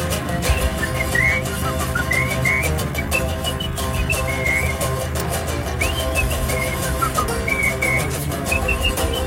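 Someone whistles a wandering tune in short, bright phrases over a dense, steady musical backing that fills the whole stretch; the whistling sits fairly clear above the accompaniment.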